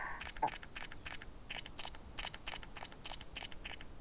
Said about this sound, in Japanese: ヤコヤコのことパシャパシャカメラで撮ってるにゃ。